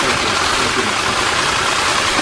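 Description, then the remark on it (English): Many press photographers' camera shutters fire in rapid bursts as they take pictures of the American president and the Russian president, overlapping into a loud, dense, continuous clatter that runs unbroken for the whole couple of seconds, with no voices. “That's just the media snapping away, holding that button down, and getting as many pictures of the American president and the Russian president as they possibly could.”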